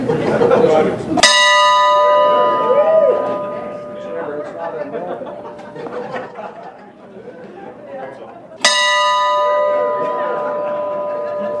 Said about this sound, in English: Well, this bell is actually the biggest bell I've ever rung. It used to be a dinner bell my mother used to ring when she wanted me to come.